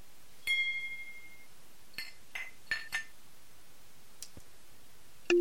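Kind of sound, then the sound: household object, glasses clinking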